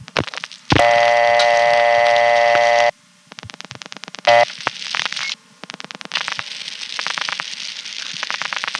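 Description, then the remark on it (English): A loud, steady electronic tone holds for about two seconds, then gives way to bursts of rapid, regular, unidentified clicking on a telephone line, broken by short pauses and one brief tone blip. “Here's calling it at a time when there are no tones, but there's an unidentified clicking on the line.”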